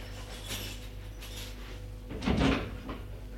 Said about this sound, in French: Puis, elle quitte la pièce en vitesse. tremblante, honteuse, et referme la porte à clé.